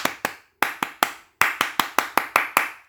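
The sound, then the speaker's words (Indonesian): Sharp hand claps demonstrating clapping variations in number and rhythm: a pair, then a quick group of three, a pause, and a faster run of seven or so, each crisp and loud, with no voices. “Beberapa variasi tepuk tangan antara lain, tepuk tangan 1 kali, tepuk tangan 2 kali, tepuk tangan 3 kali, tepuk tangan pramuka.”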